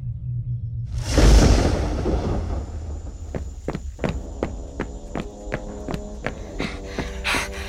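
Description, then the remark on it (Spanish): After a brief rushing burst, quick, evenly spaced running footsteps of an officer thud along at a steady pace as he runs into a shed, moderately loud, with no voices. “Seguramente fue el 24 de septiembre cuando entró corriendo al galpón un oficial que estaba eufórico.”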